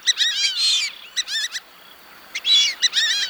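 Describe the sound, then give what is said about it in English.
High-pitched whistling calls of a fulvous whistling duck, a lanky brown bird, repeated in quick bursts of squeaky, wavering notes with short pauses between. They are fairly loud, with no talking. “The fulvous whistling duck is a lanky brown bird with a high-pitched call.”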